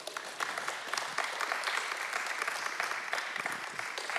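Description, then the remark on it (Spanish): A church audience claps steadily for several seconds, applauding the Lord during a service, a dense, even patter of many hands filling the space, with no voices rising above it. “Pueden tomar su lugar, dándole un aplauso al Señor.”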